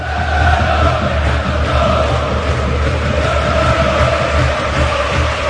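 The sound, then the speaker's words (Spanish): Atlético de Madrid fans at the Calderón stadium chant in unison and applaud in the 9th minute for Fernando Torres, a loud continuous roar of voices with sustained tonal chanting carrying over the steady, rhythmic clapping throughout. “Cánticos y aplausos porque el susto que se llevaron los atléticos y todo el mundo fue tremendo el pasado jueves en Riazor.”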